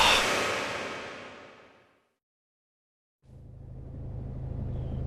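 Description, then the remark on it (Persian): A loud wash of passing road noise fades away into a second of silence, then a low engine rumble with a steady hum swells back in, like traffic resuming. “لعنتی، عجب ترافیکیه.”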